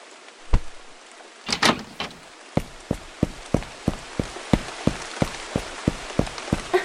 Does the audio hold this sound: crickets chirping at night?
no